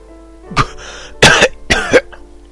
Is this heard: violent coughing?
yes